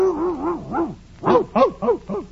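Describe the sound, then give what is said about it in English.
A dog in a kennel gives a wavering, whining howl, then breaks into a quick run of five sharp, yappy barks, fairly loud, with no talking. “No, just my dog.”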